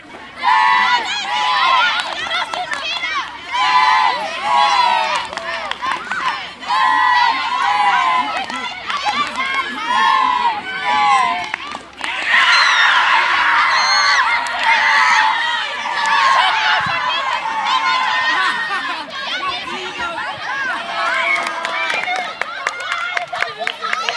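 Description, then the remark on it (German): A crowd of young voices, students at a school sports day during a ball-over-the-rope game, shouts and cheers continuously, lively and loud throughout, swelling into a denser burst of excited yelling about halfway through before settling back into steady cheering. “Die Jugendlichen sind mit ganzer Motivation, wie hier beim Ball über die Leine, mit dabei.”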